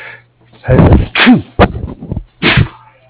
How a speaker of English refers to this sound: Excuse me there. Sorry, I sneezed.